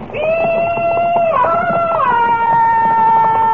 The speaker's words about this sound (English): Well, I better answer those yells of welcome, huh?